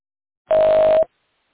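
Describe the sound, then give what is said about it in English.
A single phone keypad tone from one key press to log in on a Duo call, a steady, clear electronic beep lasting about half a second, loud, with silence on either side. “Otherwise, press any key on your phone to log in.”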